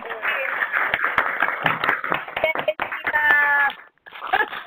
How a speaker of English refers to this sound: We hope to acknowledge you more at a later time, and if possible, if there's a way we can do some sort of round of applause now, it would be fantastic. Yay!